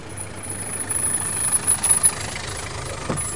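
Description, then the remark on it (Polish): A taxi engine idles with a steady low rumble and a faint rhythmic throb, running continuously without revving. No one speaks. “Un taxi.”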